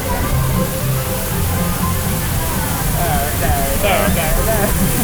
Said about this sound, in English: Oh, and then they shove you in front of this waterfall for ages. No. And you get absolutely drenched.